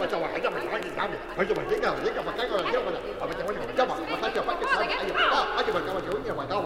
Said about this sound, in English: Soon they could see the people and the buildings, and soon they could hear the sounds of the earth. Kids playing, parents working and scolding.